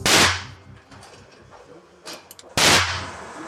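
Two loud, sharp gunshots at a shooting range ring out about two and a half seconds apart, each trailing off in a short echo, with a few faint clicks and knocks in between.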